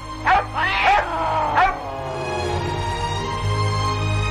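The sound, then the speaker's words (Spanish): A hunting dog barks three times in quick, sharp, fairly loud bursts, followed by a sustained, fading tonal hum with no one speaking. “La suerte es que el perro cazador se encontraba cerca y espantó al gato de un mordisco.”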